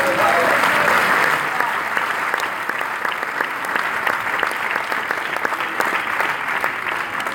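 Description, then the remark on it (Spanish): Sustained applause from a crowd, given for the Lord, a dense, steady patter of many hands clapping at once, loud and continuous for several seconds before easing slightly. “Den un aplauso al”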